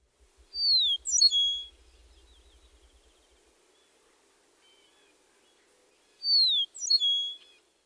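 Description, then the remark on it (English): An eastern meadowlark sings twice, each song made of clear, high downslurred whistles followed by a quick jumble of notes, separated by several seconds of quiet with a faint low rattle early on. “The song typically includes two downslurred whistles.”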